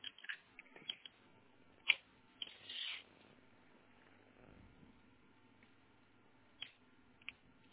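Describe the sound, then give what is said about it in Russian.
Quiet handling and scraping as a yellow internet cable is pushed back into its socket until it clicks, with a few sharp clicks scattered through, the loudest near the start. “Угу, теперь ставьте обратно до щелчка вот так же.”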